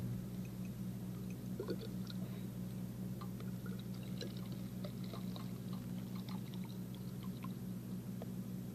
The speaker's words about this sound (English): Now what I'm going to do is to fill this thin test tube with this colored water.